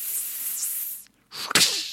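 A voice imitates Indiana Jones's whip: a long breathy hiss, a brief silence, then a second swishing rush that ends in one sharp, loud crack.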